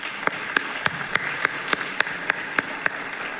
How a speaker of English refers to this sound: Can you help me to give them a round of applause?